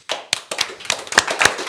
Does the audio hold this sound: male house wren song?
no